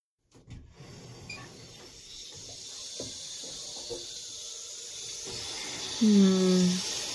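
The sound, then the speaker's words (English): Steaming hot water from a volcanic aquifer runs steadily into a bathtub with a continuous soft hiss and faint splashing, and a short, louder low groan rises near the end. “I'll get the water running.”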